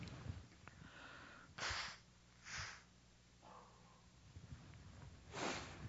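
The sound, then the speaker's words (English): Three separate bursts of nose blowing into a handkerchief, short and breathy, a few seconds apart, fairly quiet, with faint shuffling between them and no talking. “This little black thing on my chest and coughing and handkerchiefs don't go together, so excuse me here.”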